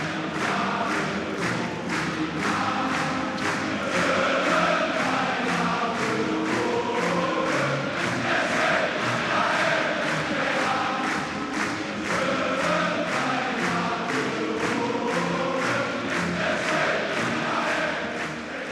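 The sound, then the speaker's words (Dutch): A large football crowd sings the Sparta march, the club anthem, together before a match, loud and steady, with rhythmic beats or claps pulsing through the massed voices for the whole stretch. “Als het publiek het mee zingt, elke wedstrijd vooraf, dan denk ik ook dat de spelers dat moeten.”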